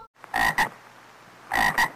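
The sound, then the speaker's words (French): Two loud double croaks from a frog, each a quick pair of raspy pulses, separated by about a second of quiet background hum. “Alors j'ai plein des grenouilles.”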